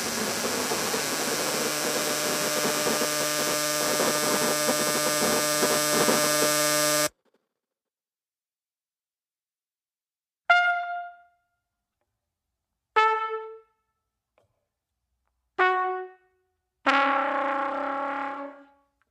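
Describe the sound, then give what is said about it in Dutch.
A composition of processed buzzing of endangered bees: a loud, dense, distorted drone that cuts off abruptly, then silence broken by four separate ringing, harmonic tones, each fading away on its own. “een compositie die Van den Broek maakte met het radicale geroezemoes van met uitsterven bedreigde bijen”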